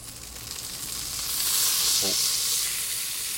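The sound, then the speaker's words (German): Bell peppers roasting over an open fire, undersides already darkened, sizzle with a steady crackling hiss that swells louder about halfway through and holds there, with a faint brief murmur in the background. “die Paprika nicht umdreht, weil er Angst hat, dass er dann hier eine Stichflamme auslöst.”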